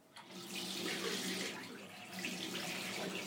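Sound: water running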